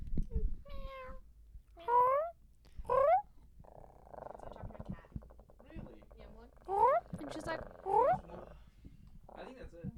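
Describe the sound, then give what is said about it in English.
A voice imitates a cat, giving about five loud, whiny meows in bursts, with a rough, rumbling purr-like stretch in the middle and no clear words. “I'm a fucking cat!”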